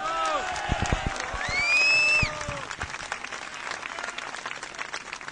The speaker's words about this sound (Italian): voi lo conoscete Mario Vattani, l'ex console, quello che ha perso il posto di lavoro per lavorare con noi? Gli facciamo un bel applauso.